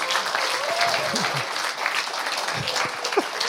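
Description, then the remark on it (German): An audience claps steadily, a dense, even wash of many hands with scattered voices mixed in, holding at a moderate level throughout. “Hört mal auf zu klatschen, ich habe keine Zeit dafür.”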